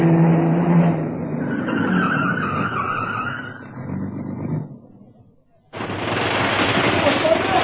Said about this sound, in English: Just then, as I had arranged, a fat black saloon turned in from the 4th Street at Main and stopped outside the Harling Gallery.